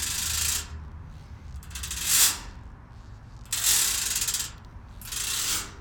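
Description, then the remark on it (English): A metal gate on the way into a house creaks and clanks as it swings open and shut, with bursts of bright, rattling scrapes as its bars are strummed in several rough sweeps. “I opened and closed the gate and also strummed part of it.”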